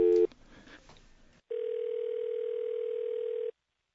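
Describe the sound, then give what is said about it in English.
A steady, unbroken telephone dial tone hums loudly for about two seconds as a call is being placed, preceded by a short beep and some faint line noise, then cuts off into silence. “All right, let's phone John Schneider here, folks.”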